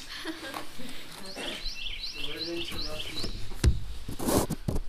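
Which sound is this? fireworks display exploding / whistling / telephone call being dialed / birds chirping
birds chirping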